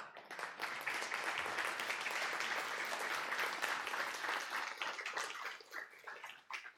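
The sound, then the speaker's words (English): An audience at Oak Tree Community Church applauds steadily, a dense wash of many hands clapping that holds strong for several seconds, then thins out into scattered claps as it fades. “Just clap.”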